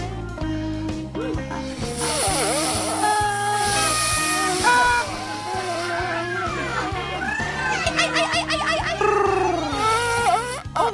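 A party noisemaker is blown again and again in a man's mouth on WGN Radio, giving off buzzy, reedy tones that waver and slide up and down in pitch over a steady, bouncy rhythmic backing, loud throughout.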